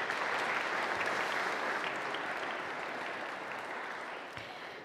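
A crowd claps steadily for several seconds, a dense wash of many hands applauding together, fairly loud and sustained before slowly tapering off at the end.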